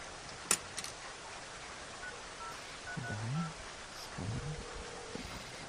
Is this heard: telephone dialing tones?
yes